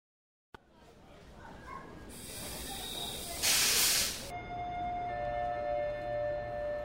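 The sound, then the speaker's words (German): Station ambience with a low rumble, a loud burst of hissing air like a train's brakes releasing, then sustained steady tones as a train idles at the platform. “Sie hören eine Durchsage am Bahnhof.”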